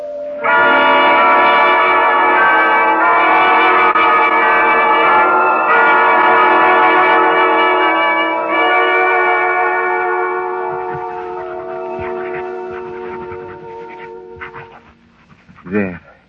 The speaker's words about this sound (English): Those bells. Try to stop those church bells. There is no room for me to think.